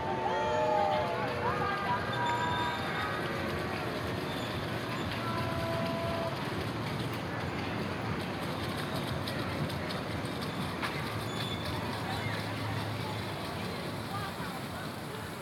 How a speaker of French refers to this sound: Oui, il est là, le train. Tu l'entends déjà? Oui. Ouais. Pourtant, il est encore assez loin, là. Ouais. Oui, on l'entend même sonner les cloches, là. Ça veut dire qu'il n'est pas si loin que ça. Il est devant nous.